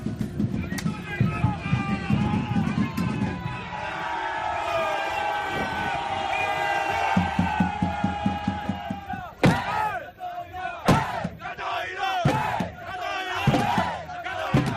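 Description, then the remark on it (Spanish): A large crowd at the yearly Viking landing festival in Catoira, a small town in Pontevedra, Galicia, roars and shouts battle cries, a sustained chorus of many voices with rhythmic chanting bursts, later broken by sharp loud whoops and yells. “Bueno, esto que estás escuchando y que parecen gritos de guerra son en realidad eso, gritos de guerra.”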